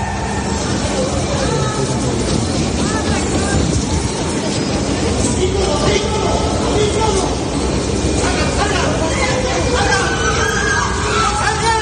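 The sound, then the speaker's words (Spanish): A panicked crowd evacuating a metro station after an electrical fault caused smoke in a carriage, a dense, loud mass of overlapping agitated voices with scattered shouts, cries and running, continuous throughout. “Bueno, pues hubo estampida de la gente, como escuchas, muchos nervios, algunos gritos, muchas carreras.”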